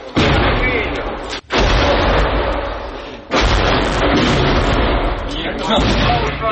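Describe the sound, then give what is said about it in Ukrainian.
Loud, intensifying artillery shelling: a dense, rolling barrage of heavy booms and blasts that fills the scene, broken by two brief lulls before the pounding resumes, as some soldiers leave their positions and go down into a basement. “Обстріл наростає, тому залишатись на поверхні стає вкрай небезпечно.”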